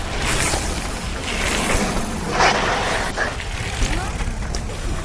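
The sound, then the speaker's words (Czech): Several mountain bikers ride one after another down a new bike trail built by the company Local Trail, each a brief rushing swell of tyre noise over a steady, rumbling background, with a few sharp clicks near the end. “Takhle to sviští, když si nový cyklotrail projíždí několik cyklistů hned po sobě.”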